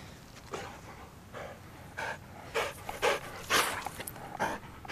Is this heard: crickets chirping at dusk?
no